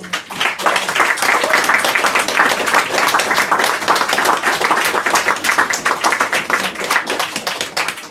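A crowd applauds steadily for about eight seconds, many hands clapping in a dense, even patter that stays loud throughout with no voices standing out.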